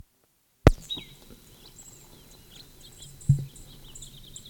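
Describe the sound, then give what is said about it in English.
Faint bird song: thin, high chirps and a brief sustained whistle over steady background hiss, opening with a sudden loud thump and interrupted by another knock later on. Recorded at 6:45, a bird in the first draw along County Road east of the gate, answered with the same song by a bird in upper Moline draw. “First draw bird now along County Road east of gate. Answered with same song from upper Moline draw bird.”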